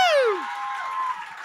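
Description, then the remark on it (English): A crowd cheers and applauds in a short, lively burst, opening with a sharp falling whoop before a steady wash of clapping and voices carries on at moderate loudness. “Yes, crowd favorite.”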